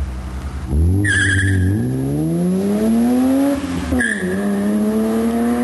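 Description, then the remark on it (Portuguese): A BMW car engine revs up hard and climbs in pitch, with a brief tire squeal as it launches during a test drive. A quick gear change follows, then the engine keeps pulling loudly. “Chevette tem que pisar muito. Esse aqui eu fui pisar, você viu o que aconteceu, né?”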